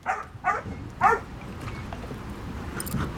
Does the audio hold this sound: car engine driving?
no